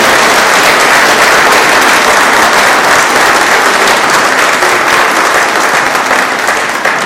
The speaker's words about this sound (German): Und das ist mal ein herzlicher Applaus auch wert für unsere Teamer.